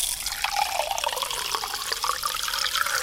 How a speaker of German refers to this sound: Und jetzt muss man das Glas so hoch mit Wasser befüllen, das machen wir jetzt auch, dass das gerade so im Wasser ist.